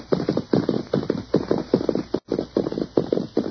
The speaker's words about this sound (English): Now, you ride ahead and ask if we can water our horses.